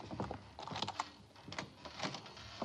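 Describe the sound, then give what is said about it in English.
Keys jingle and scrape as a door is unlocked, an irregular run of small metallic clicks and rattles over about three seconds, with no voices. “I have my keys.”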